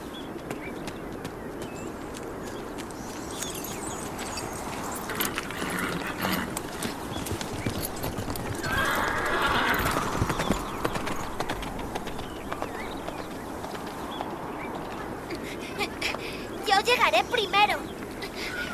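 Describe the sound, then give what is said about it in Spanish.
A horse's hooves clip-clop in a steady, busy rhythm throughout, with a horse neighing briefly partway through and indistinct voices faintly underneath. “Y date prisa. Llévate mi caballo.”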